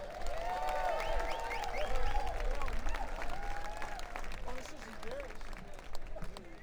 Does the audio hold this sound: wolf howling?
no